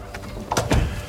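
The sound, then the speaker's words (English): A door closes with a quick latch click followed by a solid, low thud, two sharp impacts within a second. “Shut the door.”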